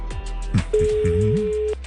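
A single steady, mid-pitched telephone ringing tone sounds for about a second over a phone line as Radio SG calls a mobile phone at Diro Stahl, with a faint murmuring voice underneath and brief muffled clicks before it.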